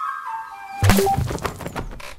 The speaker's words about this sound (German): stell dir vor, jemand hat gerade eine Wasserbombe nach mir geworfen. Direkt vor unserem Haus.